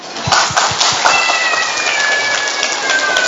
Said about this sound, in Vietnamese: Bà này nói gì bà vỗ tay quá, bà lên đây bà.